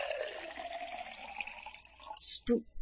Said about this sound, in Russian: Сосед охотно потянулся за хрустальным графином, и в стакан широкой струей хлынуло нечто красное, густое и явно артериального происхождения.